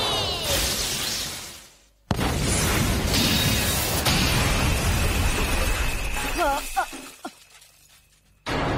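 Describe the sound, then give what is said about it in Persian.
A loud cartoon-style explosion effect, a spinning top's finishing attack ending a battle, roars in two long bursts of crashing, shattering noise, with a brief gap between them, ending in quick chirping tones before cutting off. “بارا بلفایه با یه انفجار تمومش کن.”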